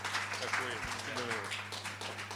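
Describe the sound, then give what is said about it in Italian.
A crowd applauds steadily, a dense wash of clapping, with a few voices calling out beneath it and a low electrical hum in the background. “Per cui, Alessio, vi chiedo un applauso perché sarebbe bello”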